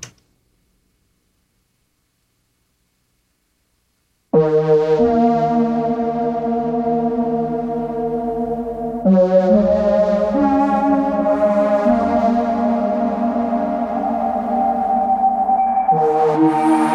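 After about four seconds of silence, a music intro starts: sustained, synth-like chords that shift every few seconds at a steady, fairly loud level, with no vocals yet.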